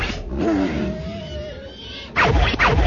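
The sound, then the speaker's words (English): Wampa creatures in the snow let out a bellowing, odd howl, a wavering, gliding tone over a rumbling background, then a loud, rough roaring burst erupts near the end. “The wampas bellowed an odd howl that careened across the empty steps.”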